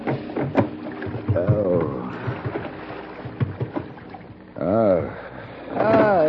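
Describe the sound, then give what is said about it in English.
A small boat rocks on the water in dense fog, with steady lapping and wooden creaks, and a few muffled, groaning vocal sounds rising and falling over it. “The rocking movement of the small boat didn't help the dull, throbbing pain in my head.”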